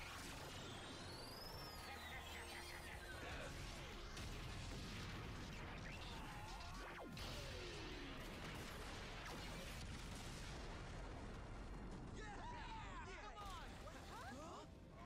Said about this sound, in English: Multi-disc octo cannon, cannon blast.